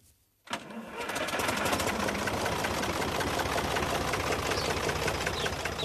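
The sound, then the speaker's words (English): The heavy engine of an old green German-made tractor bought in 1962 rumbles to life after a brief quiet moment on a farm in County Wicklow, Ireland. It then chugs steadily and loudly with a rough, knocking rhythm, like an old tractor idling. “When Adolf Bader arrived in Ireland to move into his new farm, he immediately bought a green tractor. That was back in 1962, and he still uses his tractor every day.”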